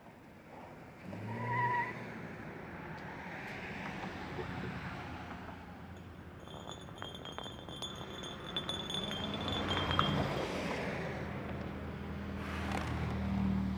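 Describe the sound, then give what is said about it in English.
Steady roar of freeway traffic rumbling overhead at the on-ramp to the Bay Bridge, with low engine drone and passing vehicles, plus some faint high metallic squeals and clinks in the middle stretch. “Overhead the freeway and on ramp to the Bay Bridge.”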